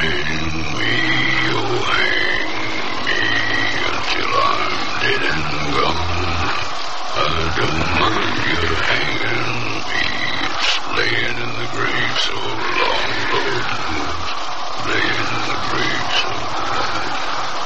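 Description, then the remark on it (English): Wild animals howl together among pines, overlapping wavering wails that rise and fall in pitch, continuing throughout over a steady low rumbling background with no talking. “Wild animals howled, and it was strange to see the notorious desperado stretched out against the firelight, singing a mournful song to his dog Ring.”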